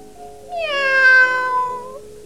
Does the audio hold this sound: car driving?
no